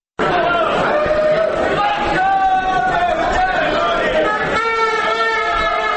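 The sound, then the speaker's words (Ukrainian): A steady, dense hubbub of many voices in many languages from crowds of football fans in Warsaw, Poland. No single speaker stands out, and it continues without a break for about six seconds. “Столиця Польщі потопає в різномовному гомоні.”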